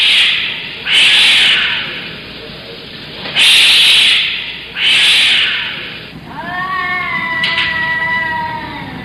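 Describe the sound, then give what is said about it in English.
At night at 3 a.m., cats hiss in three harsh, breathy bursts, then break into a long, wavering caterwaul of rising and falling yowls, loud, with no voices. “And every night at 3 a.m., there are cats.”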